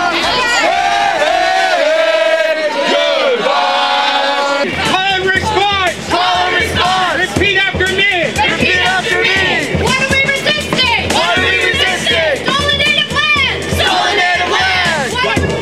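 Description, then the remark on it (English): A large crowd of at least 3,000 protesters chants and yells together in loud, rhythmic bursts at an evening rally and march titled Take Back Our City, organized by the 2010 Welcoming Committee during the Olympic Games. Many voices overlap into a sustained roar with repeated shouted phrases throughout. “The evening brought out at least 3,000 protesters representing activists of all stripes”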